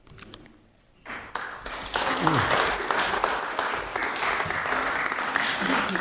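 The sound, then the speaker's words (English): An audience breaks into sustained welcoming applause for a speaker at a pulpit after a brief lull, many hands clapping in a dense, steady patter that stays loud to the end, with a few voices murmuring underneath. “Nice to be applauded when you're talking from a pulpit.”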